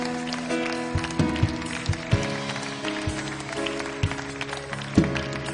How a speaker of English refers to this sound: Would you clap your hands again? I felt the Holy Ghost move in here a moment ago. When we began to clap our hands, I felt the Spirit of the Lord.